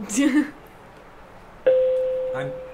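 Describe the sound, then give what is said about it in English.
A school bell tone sounds abruptly partway through, a steady electronic ring that holds and slowly fades. Brief speech comes just before it and again faintly over it. “That's our bell.”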